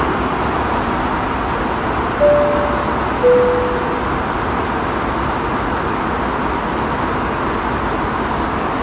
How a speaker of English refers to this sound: This first clip is going to be recorded straight off the iPhone 11 Pro, and it gives you a great idea of what the ambient sound sounds like on the airplane without any kind of music going on, no headphones in, just exactly what it sounded like.